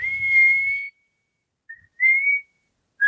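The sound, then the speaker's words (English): Someone whistles a theme song in several sustained, steady notes separated by short pauses, fairly loud, with faint low rumbling under the first phrase. “Let's all whistle the theme song.”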